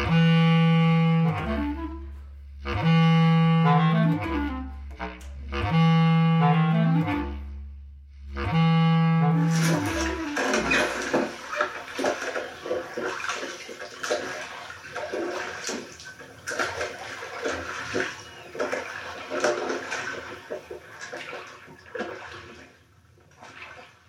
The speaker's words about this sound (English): The sound of my father rowing his boat. One of my favorite sounds in the world, I think.